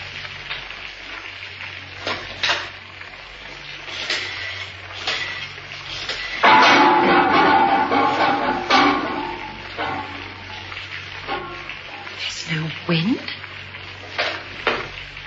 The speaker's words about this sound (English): Oh, here comes the rain.